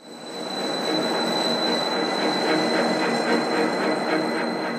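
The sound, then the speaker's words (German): A train rolls steadily along the rails, a dense continuous rumble with thin, high-pitched wheel squeal held throughout, fairly loud, with no voices. “Eisenbahnzüge fahren durch weite Landschaften, Reisende blicken melancholisch aus Abteilfenstern, Loks kämpfen sich mühsam Berge hinauf”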